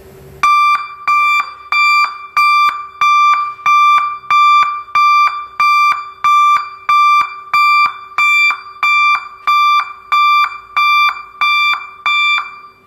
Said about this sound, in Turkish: Şimdi de şu anda muayene istasyonunda en fazla istenen korna geri vites düdüğü diye geçiyor. Bunu dinleteceğiz size.